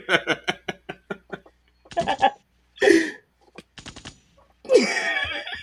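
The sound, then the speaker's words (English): A voice imitates gunshots: a quick run of laughing, stuttering bursts, then a few loud, noisy blasts spaced out over several seconds, harsh. “Sorry, that was immature. I just felt like the gunshot.”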